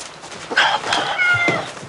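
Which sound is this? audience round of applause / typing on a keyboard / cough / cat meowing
cat meowing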